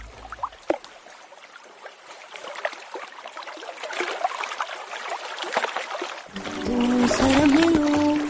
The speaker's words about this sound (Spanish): Un ligero movimiento del dedo índice hace brotar a borbotones agua de nuestros grifos para lavarnos, ducharnos, fregar los platos y utensilios de cocina, cocinar, regar, refrescar nuestras vidas.